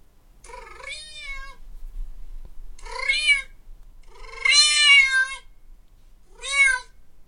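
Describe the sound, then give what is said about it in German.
A cat in a split-screen TikTok "Cat Whisperer" video meows four times in a slow back-and-forth with a man making strange noises, each call high-pitched and wavering, the third one longest and loudest, with short quiet gaps and no talking between them. “auf der rechten Seite sieht man halt den Typ, der diese komischen Geräusche macht. Und auf der anderen Hälfte vom Monitor sieht man seine Katze”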